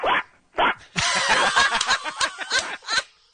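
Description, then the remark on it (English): A person imitates a dog, with two short sharp barks followed by a longer run of yapping, growly vocal barks, fairly loud, with no talking alongside. “That's a pretty spot-on dog, right?”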